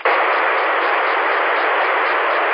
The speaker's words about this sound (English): I was getting ready to turn the radio off, and I went, before I do that, let's just key it up and see if anybody can hear me over that static, not knowing what it was.